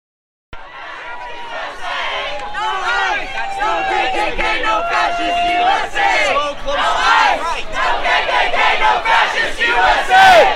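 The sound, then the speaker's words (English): A large protest crowd chants and shouts in the street near the courthouse in downtown Eureka, spilling into the three northbound traffic lanes of 5th Street, many voices merging into a loud, steady roar that starts abruptly and keeps building for several seconds. “At the courthouse, the sidewalks were packed, leaving little space for those marching from Old Town to congregate, at which point the crowd swelled into the three lanes of traffic on 5th Street going north.”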